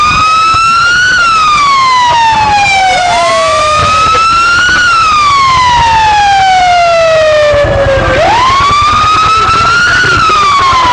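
Loud police car sirens wail in long rising and falling sweeps, repeating several times over steady road rumble as they pass along a street that police are barricading.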